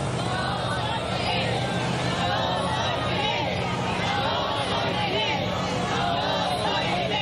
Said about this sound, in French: Des centaines de milliers de Cubains ont pleuré, applaudi, ou scandé « Yo soy Fidel, je suis Fidel », alors que le cortège roulait sur le parcours de 900 kilomètres.